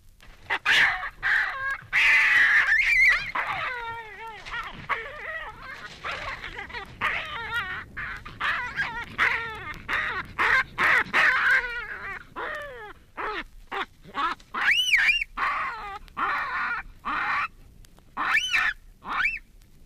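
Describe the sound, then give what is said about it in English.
Two male baboons clash in a noisy fight, trading harsh, angry grunts, growls and high squeals in rapid, overlapping bursts, loud throughout. “Here are the angry, frightened sounds of a male fight, grunts and growls and squeals, actually seven different sounds in all.”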